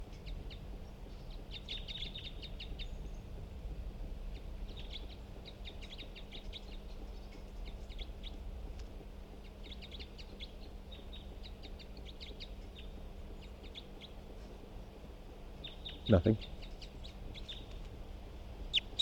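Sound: bird calls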